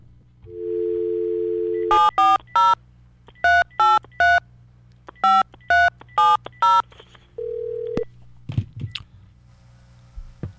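A steady dial tone gives way to a quick series of crisp telephone keypad beeps in short clusters as a call is placed to a caller, followed by a single held tone and a few soft clicks as the line connects.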